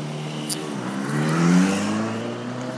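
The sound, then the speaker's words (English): A car engine revs outside, its pitch climbing and swelling to a peak mid-clip before easing back, with a steady mechanical hum throughout and no voices. “Someone's just had a new car or something. I don't really think they needed to do that, did they?”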